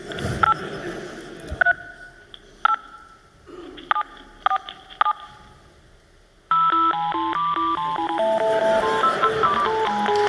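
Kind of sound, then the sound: household object, cordless phone keypad tones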